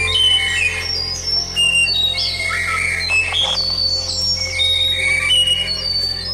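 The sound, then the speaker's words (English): Clear, whistled song of a white-throated thrush with rising and falling phrases and sharp high notes, repeated over a steady low hum, with other birds chirping in the background. “This is a white-throated thrush.”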